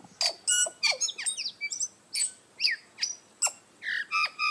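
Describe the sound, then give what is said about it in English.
A tui, a foot-long New Zealand bird, calling alone, a rapid series of varied squawks, clicks and bright whistled notes with sharp upward and downward sweeps, delivered in quick bursts with brief pauses between. “The tui is one of New Zealand's most remarkable birds.”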